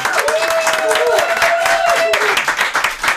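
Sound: audience applause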